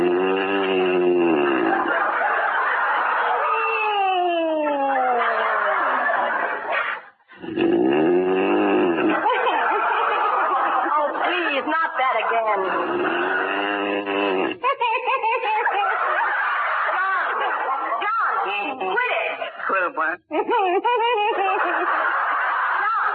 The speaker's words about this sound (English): Something that'll put a stop to that hideous snoring.